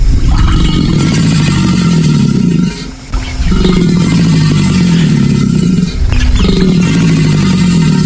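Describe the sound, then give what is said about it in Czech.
An American alligator bellows in loud, deep, throaty rumbles, three long bouts separated by brief pauses, with a growling, engine-like vibration and no voices. “Tohle byl, prosím pěkně, aligátor severoamerický.”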